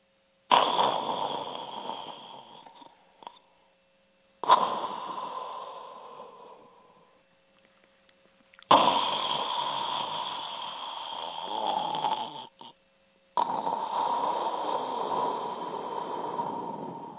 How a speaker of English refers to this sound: Awakening in the middle of a prodigiously tough snore, Scrooge felt he was restored to consciousness at the right nick of time